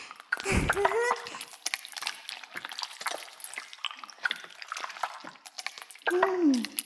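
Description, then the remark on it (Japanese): Continuous wet squelching and crackling as foamy lather for washing someone's head is worked between hands, with a brief voiced sound near the start and again at the end. “そのくらいでいいかな。もう十分泡立ったと思うし。”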